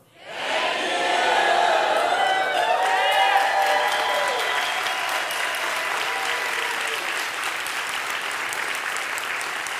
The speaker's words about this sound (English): Okay, so I'm going to count down from three, and when I get to one, you guys just scream thank you to all of our supporters. 3, 2, 1, go.